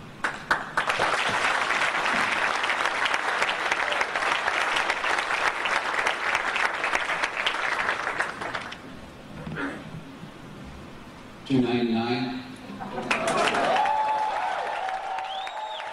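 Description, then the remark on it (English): A conference crowd on its feet bursts into loud, dense applause after Sony Computer Entertainment America president Steve Race's brief presentation, holding steady for about nine seconds, then dying away into quieter murmurs and a few brief voices. “That was the whole speech, and the crowd got on their feet for it.”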